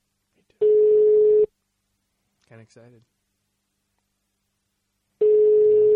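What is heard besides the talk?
outgoing phone call ringing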